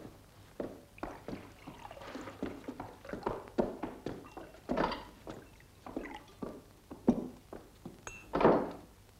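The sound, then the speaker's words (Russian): A flurry of dull, thudding blows as a man is punched with a fist, landing in an irregular rhythm, with scuffling and knocking between the heavier hits, followed by one louder, fuller impact near the end, and no voices. “Нет, малыш, ты ударил его кулаком, а он этого не заслужил.”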